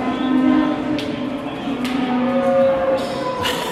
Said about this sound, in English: No doubt that you're at the mart for sure. There's farmers and cattle at the mart in Thurles.